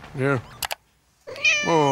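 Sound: cat meowing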